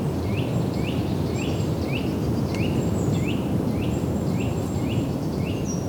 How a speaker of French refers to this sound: surplombons le lac de Cousseau. Du vent, des oiseaux.